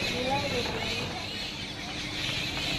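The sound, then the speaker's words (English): Birds squawk and chirp amid monkeys chattering as they fight over a tree, a busy, continuous tangle of calls over steady outdoor background noise. “Some birds are fighting with some monkeys over a tree.”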